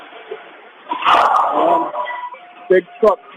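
A big truck right next to the listener dumps a load of junk: a loud, rough clattering rush with a low thump lasting about a second, then fading, followed by two short, sharp bursts like a dog's yelps.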